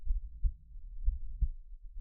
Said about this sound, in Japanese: 私の鼓動聞こえていますか？ドクンドクンって脈打っている私の心臓。